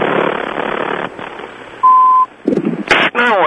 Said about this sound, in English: So there doesn't have to be a beeping sound like the one that you're hearing right there.